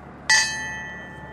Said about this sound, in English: A bell solemnly tolls for each of the 101 Bristol Bay men and women lost at sea as the crowd observes in silence.